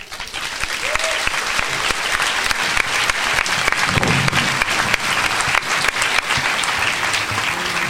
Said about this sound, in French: Je vais vous demander d'applaudir en guise d'encouragement un autre jeune que je vais présenter deux minutes,